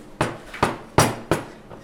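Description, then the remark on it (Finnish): Firm salmiakki candy dough is beaten in a steady rhythm: four loud, sharp knocks about every third of a second, then a fainter fifth, with no talking. “Täällä hakataan taikina ja se kuulee.”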